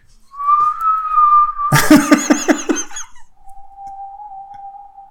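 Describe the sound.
A long, steady, clear whistle calling the horse Shadowfax in a Lord of the Rings film scene is followed by a loud burst of rapid, shaky high-pitched squeals, then a second sustained whistle at a slightly lower pitch fades out. No one speaks.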